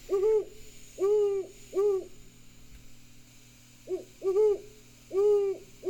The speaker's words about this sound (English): The soft hoot of the great horned owl is lovely to hear. I hope you hear it occasionally.